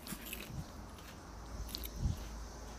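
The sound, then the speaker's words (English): Chewing popcorn near the microphone with soft crunchy bites, a few irregular crunches spread over a couple of seconds, one louder burst near the end, no talking. “I'm trying to put the mic away when I chew back.”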